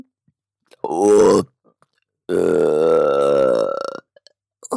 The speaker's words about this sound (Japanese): またゲップが出てきて。